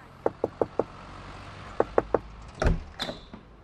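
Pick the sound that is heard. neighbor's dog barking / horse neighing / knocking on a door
knocking on a door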